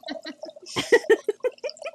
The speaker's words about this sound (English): I can tell that that's wine and not pee because it doesn't sound like chicken frying.